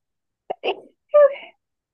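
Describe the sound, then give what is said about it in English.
A single sneeze: a quick catch of breath, a sharp burst, then a short voiced trailing sound, alone with silence around it. “Bless you.”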